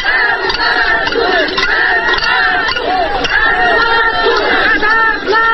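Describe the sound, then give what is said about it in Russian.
A large crowd shouts and chants together at an empty-pot rally in Vyatskiye Polyany over unpaid wages at the Molot machine-building plant, many overlapping raised voices forming a loud, continuous roar with rising and falling yells throughout. “Митинги и марши пустых кастрюль в городе Вятские Поляны до недавней поры были обычным явлением.”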